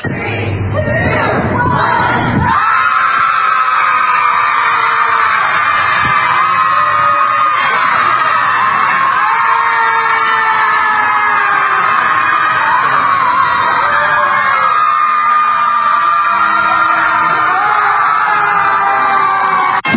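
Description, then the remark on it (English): A large crowd of protesters screams and yells helplessly at the sky together in a sustained, loud roar of many voices, continuous for the whole stretch, with overlapping shouts and whoops rising and falling, one year after the election of President Donald Trump. “Tonight, thousands of people in cities across the country will scream helplessly at the sky 1 year after the election of President Donald Trump.”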